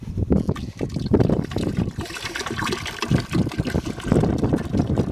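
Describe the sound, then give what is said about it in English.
A whole flask of mercury is poured into a toilet bowl to try to clog it, making a steady, fairly loud splashing and gurgling that sloshes on for several seconds with uneven low thumps. No one speaks. “So he's pouring the mercury.”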